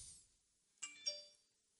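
A phone chirps faintly with two quick bright chime tones, one right after the other, each ringing out briefly amid otherwise quiet surroundings.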